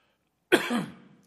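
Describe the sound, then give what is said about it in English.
A single harsh cough from a man bursts out suddenly after a moment of silence, trailing off into a rough, throaty rasp as he clears his throat. “This is going on with me all last night. My wife will tell you, sneezing and coughing.”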